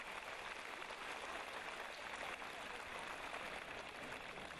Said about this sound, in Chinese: 让我们用热烈的掌声感恩大慈大悲的观世音菩萨，感恩大慈大悲的卢军宏台长。